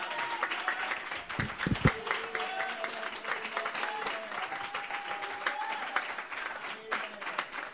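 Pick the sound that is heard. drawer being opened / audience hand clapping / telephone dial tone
audience hand clapping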